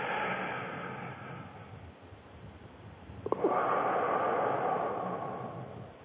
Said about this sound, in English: Let's take in a good, I breathe in the breath of God and take it right into the diaphragm.